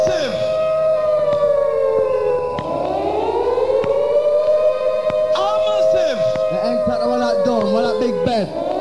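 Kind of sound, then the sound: signal or alarm, siren wailing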